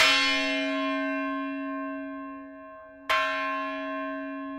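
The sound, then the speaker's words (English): The bell of the Nantucket Lightship, a 100-foot red ship docked in East Boston, is struck twice, about three seconds apart, each clang ringing out loud and clear before a long, shimmering decay, with no voices. “This is the bell of the Nantucket Lightship, which is docked in East Boston.”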